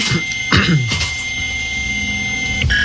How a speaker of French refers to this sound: Le modem, ça.